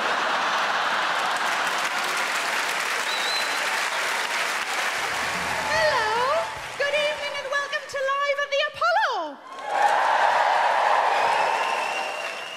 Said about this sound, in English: And from the clapping, I can tell I'm not the only one.